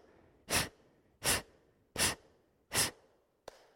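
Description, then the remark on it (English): Four forceful, breathy exhales pushed out at a steady pace, roughly one every three-quarters of a second, loud, with quiet gaps between and a short faint puff at the end; effortful exhales in a breathing exercise, with no effort on the inhale. “Only effort on the exhale. No effort on the inhale.”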